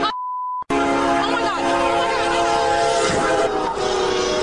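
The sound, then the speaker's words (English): After a brief electronic beep, a loud, steady train horn blares over the heavy rushing rumble of a passing train, continuing without letup to the end. “Can you believe the train sounds were coming long before they started talking about the train sounds coming?”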